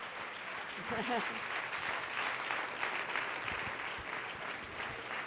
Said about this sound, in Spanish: Dele fuerte el aplauso a Cristo.